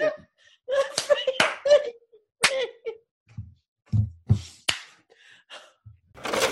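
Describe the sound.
Several sharp, crisp hand claps ring out one at a time at uneven intervals, several people taking turns to clap in a set order, with murmuring voices, laughter and a few low thumps filling the gaps between them.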